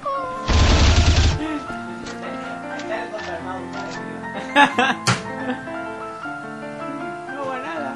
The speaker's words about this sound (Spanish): Cortinilla Johnny 88, que anuncia que Johnny 88 videojuegos empieza. La sección de videojuegos de antes se molaba.